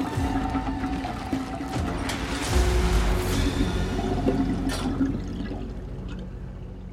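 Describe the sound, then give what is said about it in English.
Water gurgles and rushes steadily down a bathtub drain after a blocked pipe is cleared, a continuous swirl of liquid with low churning tones that swell in the middle and ease off toward the end. No voices. “Making a surgical effort, he manages to unblock the pipe, and slowly, the bathtub begins to drain.”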